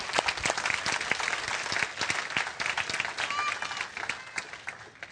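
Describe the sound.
An audience at a worship service breaks into steady, dense applause for those who led the worship, many hands clapping together for about five seconds, with a few faint voices and a brief high whoop mixed in as it begins to taper.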